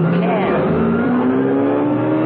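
A car roars loud, its engine whine climbing steadily in pitch with a screeching edge as it is driven hard round a sharp curve, continuous for about two seconds.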